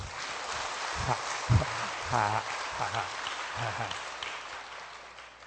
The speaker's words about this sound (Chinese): 你看这法师为我们这个嘉义带来的这个什么遍洒甘露，再鼓掌一下。